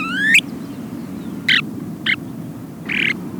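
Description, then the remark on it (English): A male snowy plover calls from the beach grass on the ocean beach at Morro Bay, California, at sunset. It gives a soft, rising whistled note, followed by three short, clipped whistles spaced about a second apart, all over a steady low rushing background. “Strolling at sunset along the ocean beach at California's Morro Bay, you hear a soft, whistled call from the beach grass nearby.”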